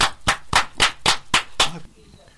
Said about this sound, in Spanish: Aplauso.